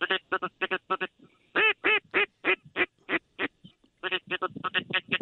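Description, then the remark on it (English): A wigeon duck calls over and over in loud, nasal bursts, quick strings of quacks broken by short pauses, as it lands just outside the decoys, with no talking. “No, it's a widget, but he landed right outside the decoys.”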